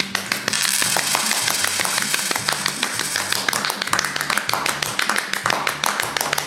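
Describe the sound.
A small group claps for the winner of a round of a game, in quick, steady, overlapping applause for about six seconds, with voices murmuring and calling out underneath the sharp, dense claps.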